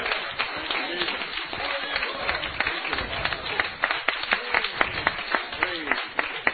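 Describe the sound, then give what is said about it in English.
An audience cheers and applauds together for the Lord: a steady wash of rapid, overlapping handclaps mixed with shouting and whooping voices, holding at a lively level throughout, with sharper claps standing out toward the end. “When a saint of God, hallelujah, give the Lord a cheer on that one.”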